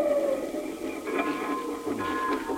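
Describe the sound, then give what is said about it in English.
A train engine pulling one coach comes around the mountain, chugging and hissing steadily, with sustained high whistle-like tones sounding over the rumble. The level stays fairly even throughout, and no one speaks. “Well, there she is, a-coming around the mountain. Yeah. You know, this is something to see, an engine pulling one coach.”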